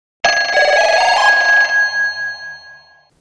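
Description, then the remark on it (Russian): A loud, rattling telephone bell rings once for about a second and a half, then its metallic tone lingers and fades with a slight pulsing decay. No voices are present. “Телефон Московского губернского театра для справок и заказа билетов.”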